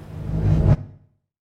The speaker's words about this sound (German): Den Wind in den Blättern.